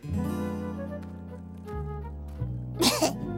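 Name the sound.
coughing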